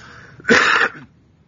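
A single harsh, raspy cough bursts out close to the microphone, lasting about half a second with a rough, throaty rattle, then fades into quiet background.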